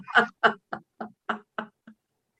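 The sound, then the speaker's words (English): A grandfather clock chimes in a quick run of about seven evenly spaced strikes, clear, the final note softer, with no talking over it. “Excuse my mother's grandfather clock. It's chiming.”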